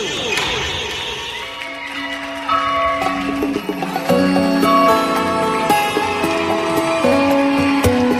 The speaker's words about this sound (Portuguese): O sino tocou.